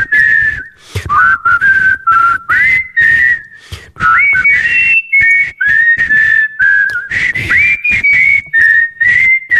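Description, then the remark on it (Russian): A clear, loud whistled rendition of the Happy Birthday melody from a downloaded parrot-training recording, sustained notes sliding and stepping between pitches in short phrases with brief pauses, and no talking. “Я для Насти сегодня с утра скачал обучение попугая Карелла.”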